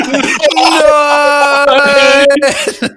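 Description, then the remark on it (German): A person lets out a long, drawn-out mock scream of despair, a loud sustained wail held steady for about two seconds before breaking off, with no other sounds around it. “Ja, und ich glaube, so ist der berühmte Schrei entstanden.”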